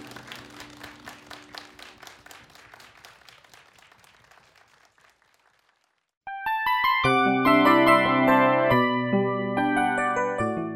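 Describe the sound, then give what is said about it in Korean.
Audience applause at a church service, clapping for one another and in praise to God: a steady patter of many hands clapping that fades out over about five seconds, then a short silence before bright organ-like music swells in loudly and fills the rest. “우리 서로에게 박수하면서 또 하나님께 영광의 박수로 찬양하겠습니다.”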